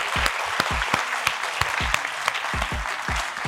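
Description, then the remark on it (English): An audience breaks into steady applause, a dense wash of many hands clapping with a few sharper, louder claps standing out throughout, and no one speaking over it. “I think a round of applause for that sentiment alone.”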